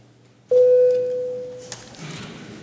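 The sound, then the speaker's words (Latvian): A parliament chamber bell sounds once before a vote on draft amendments to the Criminal Law in second reading, a steady, fairly loud electronic tone lasting just over a second, then cuts off, leaving soft room noise and rustling. “Paldies, lūdzu, zvanu.”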